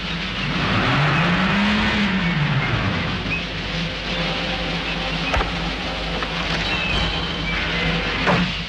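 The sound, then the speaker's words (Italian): A car engine idles steadily after running five minutes to warm up, with one brief rev rising and falling near the start, and a couple of sharp clicks cutting through the continuous rumble later on. “Ma non picchia un po' in testa sto motore?”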